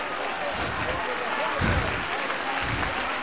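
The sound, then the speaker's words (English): A church audience applauding together to give the Lord a hand clap of thanks: dense continuous clapping from many hands that fills the whole stretch at steady loudness, with a slight swell partway through. “Oh, give the Lord a hand clap of thanks for it.”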